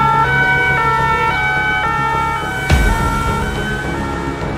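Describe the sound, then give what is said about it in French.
Loud sirens of arriving fire engines and police wail together in steady, overlapping tones that shift pitch every second or so, over a low traffic rumble, with a brief thud near the end. “Regarde, il y a les pompiers qui arrivent, et la police.”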